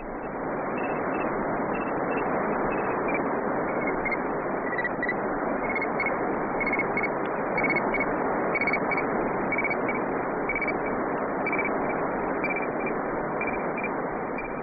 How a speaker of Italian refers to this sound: Provate a chiudere gli occhi. Se non vi avessimo già detto che è la voce di un satellite, non lo scambiereste per un coro di grilli in una tiepida sera d'estate? Quelli che sembrano grilli sono invece gli impulsi corrispondenti alle lettere H e I